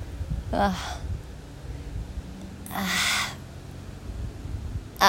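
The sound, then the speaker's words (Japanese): A crow flying outdoors caws, giving two harsh, raspy calls a couple of seconds apart and a short clipped one at the end, against a low background rumble. “笑ってんのかなあいつ、何うんち我慢してんのみたいな感じ。カラスが笑ってるのかな。”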